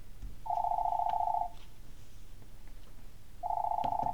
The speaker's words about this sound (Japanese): その日のお昼、自宅の電話が鳴った。